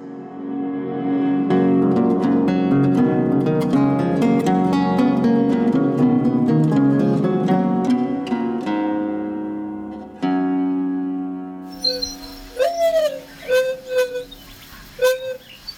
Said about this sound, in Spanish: Paloma huilota, de nombre científico Zenaida Macroura. Pertenece al orden de los columbiformes y a la familia Columbidae. Es una paloma delgada de 27 a 32 centímetros de largo, de color café, con la cola puntiaguda y grandes manchas blancas